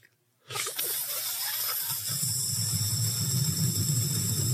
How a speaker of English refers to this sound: And then, so it almost sound like a whoosh sound when you do it. So it'll be like.